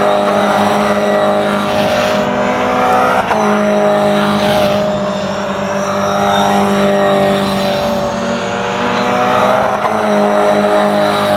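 Steady engine drone of race cars driving a cool-down lap during the Toyota qualifying session, at moderate, even revs, with sustained tonal harmonics and a couple of brief shifts in pitch, no voices over it.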